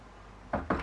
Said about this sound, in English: She knocks on the door.